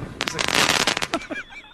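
Fireworks crackle and burst in a loud, dense flurry of sharp pops lasting about a second, then thin out into a few scattered whistles and crackles as the display fades.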